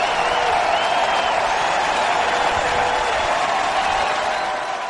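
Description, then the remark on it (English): Cubs fans at Wrigley Field, during a Phillies–Cubs baseball game, roar with cheers and applause for Jake Arrieta, a dense, steady wall of sound that holds loud for several seconds before easing slightly at the end. “Yeah, so that was Tom McCarthy, NBC Sports Philadelphia, describing that moment, the big cheer.”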